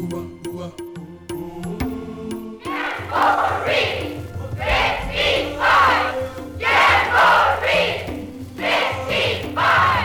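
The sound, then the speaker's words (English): A short burst of steady tones gives way to a large group of young voices, Boy Scouts, yelling a rhythmic cheer in loud, repeated shouted bursts with brief dips between them; the yell of the 8th World Jamboree in southeastern Canada. “That enthusiastic yell will be shouted by 10,000 Boy Scouts from at least 50 countries when they gather in southeastern Canada for the 8th World Jamboree.”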